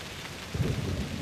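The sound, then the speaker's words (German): Steady rain falling, a dense hiss of drops, with a deep low rumble swelling partway through like thunder. No voices. “Der Regen regnet sich nicht satt. Es regnet hoffnungslosen Zwirn.”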